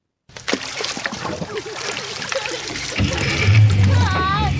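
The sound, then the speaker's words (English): Continuous splashing and trickling of water on a stretch of the Murray River near Manham, east of Adelaide, in summer, with faint voices in the background and a low droning hum, like a boat motor, joining for the final stretch. “I enjoy skiing and river water sports, kind of new to me”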